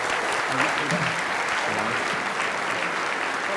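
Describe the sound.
An audience applauds steadily for several seconds, a dense, even wash of clapping with faint voices murmuring or calling out beneath it.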